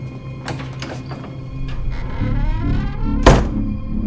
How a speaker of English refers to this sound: He flicks a light on, then opens a door next to the pantry.